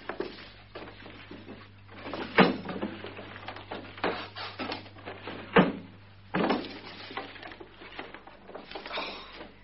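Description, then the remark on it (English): Desk drawers being pulled open and rummaged through in a search: a run of knocks, scrapes and rattles with several sharp bangs, irregular and moderately loud, and no voices. “Perhaps you put them in one of the other drawers.”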